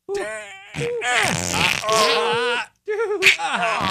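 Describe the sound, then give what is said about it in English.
A voice imitates a fart, producing several drawn-out, buzzy blasts with wobbling, sliding pitch, loud, separated by a brief pause before a final sputtering burst. “That's not a fart. This is a fart.”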